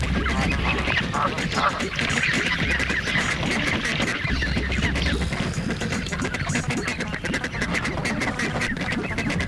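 A flock of birds on the shore chatters close by with overlapping, continuous honking and quacking calls, a dense, busy din that carries on steadily throughout with no pauses.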